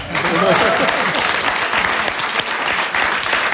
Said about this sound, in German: Deshalb sollten die Fleißigen diesen Stern haben und deshalb hat meine Frau ihn zurecht. So, jetzt dürfen wir klatschen.